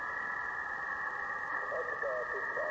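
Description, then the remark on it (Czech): Shortwave radio reception buried in heavy interference: a continuous loud hiss with a steady whining tone, faint warbling squeals drifting in partway through and a barely intelligible voice lost under the noise. “On už to vzdál, Ryšo, jo, protože to rušení je tady šílený, ten výtočet není dobrý.”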